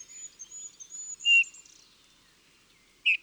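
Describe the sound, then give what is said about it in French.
A Eurasian bullfinch gives soft, piping call notes, two clearer ones about two seconds apart, with faint high whistled tones drifting in the background. No voices, fairly quiet. “Une seule note, répétée plus ou moins régulièrement, à la tonalité un peu mélancolique, avec de temps en temps une note plus grave.”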